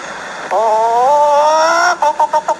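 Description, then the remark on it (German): A person imitates a hen cackling, as a woman director laying an egg at the end of a production: a drawn-out, rising vocal note followed by a quick run of about six short, clipped clucks, fairly loud. “Red nicht, verschwiss, sonst kann ich nicht gackern.”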